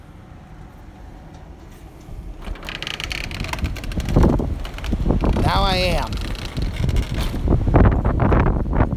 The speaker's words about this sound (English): This is how windy it is. And keep in mind, part of the wind is being blocked by the house. I'm trying to block a lot of the wind from actually hitting the microphone, but trying to let you guys hear.